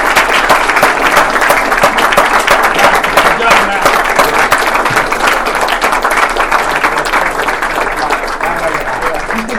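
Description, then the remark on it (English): An audience applauds steadily for several seconds, a dense, even wash of many hands clapping at a loud, sustained level without any voices rising above it. “But let's get Mack around and applause.”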